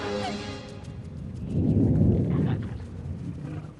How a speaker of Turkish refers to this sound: Umarım bu ses midenden geliyordur. Eminim bu bir gök gürlemesi. Ama yerin altından.